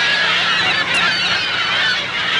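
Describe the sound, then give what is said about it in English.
A dense, continuous chorus of California gull calls from a large flock swooping in Tooele County, Utah, shrill overlapping cries and squawks filling the whole stretch at a steady, fairly loud level with no voices. “California seagulls swoop in Tooele County, Utah.”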